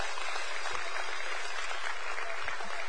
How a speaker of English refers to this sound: And so junior high school, at the count of three, as well as our kids' church, big round of applause by this group. You are now dismissed out the back end. Come on, y'all. Give it to them.